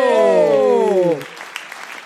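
A long, falling vocal tone rings out first, then gives way to a patter of audience clapping that continues at a moderate level with scattered sharper claps.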